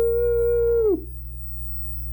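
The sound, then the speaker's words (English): A single loud, sustained 'woo' holler held steady for nearly a second, then dropping off sharply, a voice demonstrating a cattle call over a low steady hum. “Just get out there and holler,”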